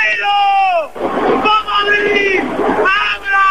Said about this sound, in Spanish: Los que gritan son los que están en el módulo de enfrente, digamos. Los que gritan son los que están grabando.